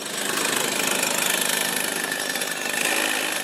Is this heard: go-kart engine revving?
yes